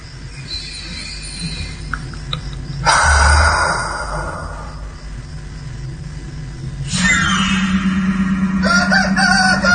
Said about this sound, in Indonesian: Pagi pun tiba. Suara si jago yang peliharaan di kosan mulai bersuara, pertanda alarm sudah pagi.